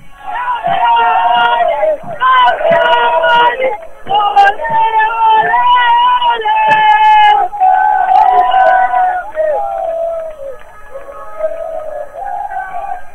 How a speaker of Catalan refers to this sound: Ara sí, en aquest precís moment, baixa l'equip per la rampa, escolteu l'afició.